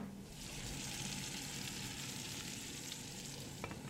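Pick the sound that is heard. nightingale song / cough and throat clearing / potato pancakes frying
potato pancakes frying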